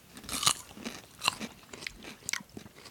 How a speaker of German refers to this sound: Also wie gesagt, wenn wir hier schmatzen heute. Dann ist das so.